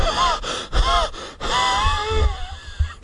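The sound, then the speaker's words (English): Hard, breathless gasping for air from someone who has been running, several ragged heaving breaths in quick succession, fairly loud, with strained vocal catches on each intake and no speech. “There was silence now, except for Hannah's hard breathing.”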